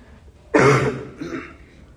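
A single harsh, chesty cough bursts out from a person getting over the flu, followed by a shorter, softer throat-clearing rasp, with quiet background before and after and no talking.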